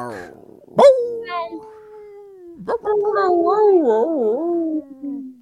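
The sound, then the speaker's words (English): A person imitates longhorn cattle: a sharp yelp leads into a long, steady lowing tone, then a second drawn-out call that wavers up and down before trailing off. “Longhorn noises.”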